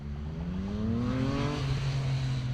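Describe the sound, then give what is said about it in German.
Steady, fairly loud road traffic rumbles throughout as cars cross the Inn bridge into the city centre, with one car engine droning and rising in pitch as it accelerates past. No voices are heard. “Wer heute über die Innbrücke in die Innenstadt fährt, braucht angesichts von Autos und Verkehr viel Fantasie, um sich auf dem jetzigen Stadttheater und auf der Redoute statt der Dächer die Gärten vorzustellen.”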